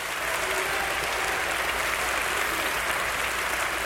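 A crowd applauds steadily, a dense, even wash of many hands clapping that holds at a constant level for the full few seconds, with no voices standing out.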